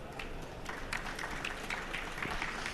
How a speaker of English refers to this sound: So let's give a round of welcoming applause